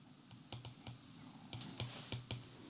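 pen writing

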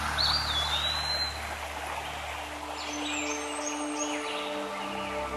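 small brook babbling

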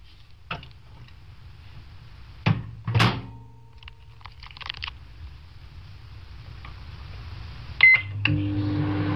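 microwave oven running

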